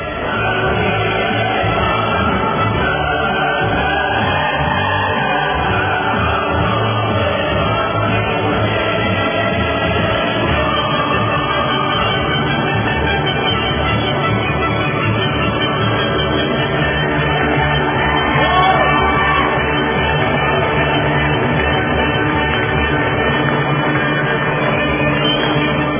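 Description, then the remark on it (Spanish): Sustained applause fills the whole stretch, steady and dense, while the 'Ode to Joy' anthem plays underneath with swelling melodic lines on a radio show, all heard at a fairly loud, even level without speech. “Y vamos a aplausos y el himno de la alegría”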